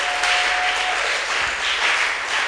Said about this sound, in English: come on, clap to the glory of God